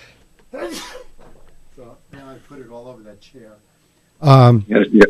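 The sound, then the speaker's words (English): After some quieter vocal sounds, a person in a studio lets out a loud sneeze, followed quickly by two shorter sharp bursts of breath. “I have to sneeze.”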